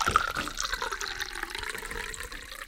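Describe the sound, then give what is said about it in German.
Water drips and trickles into a glass, some 15 to 17 counted drops, a steady, fairly loud wet splashing that runs continuously from start to finish with no voices. “Ob 15 oder 17 Tropfen, wirklich voller wird das Glas dadurch nicht.”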